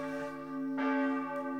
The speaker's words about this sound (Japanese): クリスマスの鐘だ。